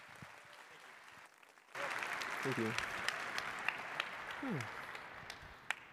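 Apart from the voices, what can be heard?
audience applause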